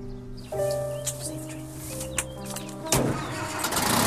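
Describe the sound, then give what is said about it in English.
A taxi engine turns over and settles into a steady, humming idle, then revs up with a louder, rougher surge as the car drives away outside with a passenger in the back, with faint birdsong in the background. “She waves as it drives away.”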